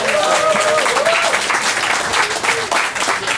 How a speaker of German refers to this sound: Die hat für uns noch nie gesungen, ist heute das erste Mal, also vielleicht noch ein extra Applaus für Sie.